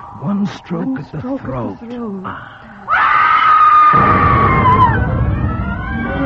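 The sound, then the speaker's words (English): After a few seconds of talking, a goat being sacrificed lets out one loud, drawn-out scream, a harsh strained bleat that sags in pitch and trails off over a rough noisy background. “Now sacrifice the goat, and call upon thy master. The goat.”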